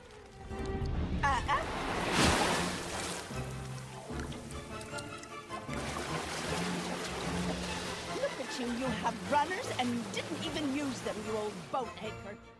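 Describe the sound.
Water swishes and splashes steadily on a pond, with a loud rushing surge early on as a character skims fast across the surface as if water skiing, soaking a swan and a horse on the banks. Indistinct voices or calls rise and fall underneath.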